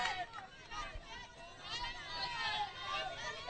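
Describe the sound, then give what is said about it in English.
A steady murmur of the crowd at a local baseball game, many overlapping voices blending into a continuous hubbub with occasional brighter shouts rising above the chatter. “Nice crowd on hand. Of course, it is a local game.”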